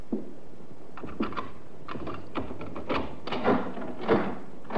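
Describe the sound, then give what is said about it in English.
A key clicks in the lock of a door with a broken frosted glass panel, and the door is pushed open, only to catch short on a chain, with a run of sharp clicks, knocks and rattles over a few seconds and no voices. “Funny, I've never known your mother to use the chain on the door in her life.”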